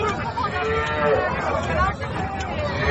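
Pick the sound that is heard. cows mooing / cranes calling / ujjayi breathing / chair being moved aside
cows mooing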